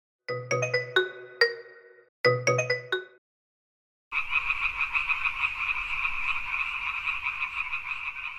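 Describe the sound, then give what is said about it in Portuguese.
Two short chiming musical phrases, then a steady, dense chorus of dancing frog calls, buzzing and trilling loudly and continuously for several seconds with no voices. “Rãs dançarinas.”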